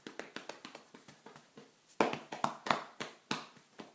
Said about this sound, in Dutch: Je kan ook je vuisten ballen. En daarmee geluid maken. Ik doe het nu even op mijn bovenbenen.